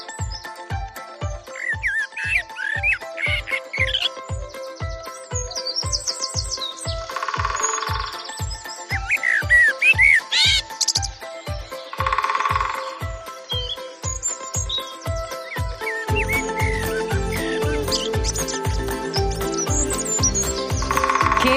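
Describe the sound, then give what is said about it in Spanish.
Birds chirp and trill in bright bursts over the steady, even knocking of a woodpecker tapping, with a fuller layer of sound thickening toward the end; no one speaks. “Preciosidad, esta melodía de la naturaleza con los sonidos del pájaro carpintero, de los distintos trinos.”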